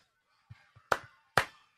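A single person claps three times, sharp crisp smacks spaced unevenly about half a second apart, after a couple of soft dull taps. No one speaks.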